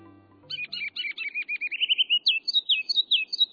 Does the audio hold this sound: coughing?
no